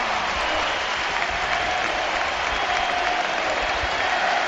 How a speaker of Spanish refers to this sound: Todos los espectadores de Riazor van a decir adiós a don Andrés Iniesta. Pasillo al Barça y ovación a Iniesta. ¡Iniesta!